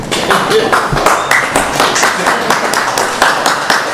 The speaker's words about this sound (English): And I know the applause is because I'm done. I know that. I get that.